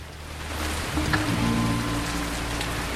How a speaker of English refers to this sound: The rain pours down.